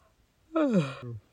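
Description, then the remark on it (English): A short, soft, small yawn, its breathy voiced tone sliding downward in pitch before trailing off into a brief low exhale, with no talking around it. “… lets out a small yawn.”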